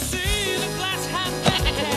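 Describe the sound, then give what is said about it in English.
A goat bleats in a couple of wavering, quavering calls, fairly loud and continuous across the moment, with no one talking; the goat kicks a ball among a group playing in muddy puddles in the rain. “The goat kicks the ball.”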